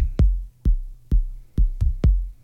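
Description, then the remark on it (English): A steady synthesized drum beat: five deep, booming kick hits with a sharp click on top, evenly spaced at a brisk tempo, each with a short low rumble tail. No voices. “And to begin with synth, we have to has a beat.”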